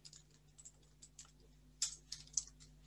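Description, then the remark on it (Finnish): Quick, light keystrokes on a computer keyboard while editing a section title, a burst of typing with a few sharper, louder key presses near the end, Enter accepting the new title, over a faint steady hum. “Ja Enterillä hyväksytään uusi osion otsikko.”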